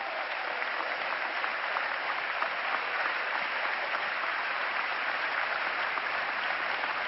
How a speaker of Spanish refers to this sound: Pero quiero pedirles un aplauso más. Quiero pedir un aplauso muy fuerte para nuestro Premio Nobel de la Paz, Adolfo Pérez Esquivel.